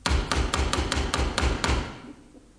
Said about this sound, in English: Yeah. Sounds like her knock.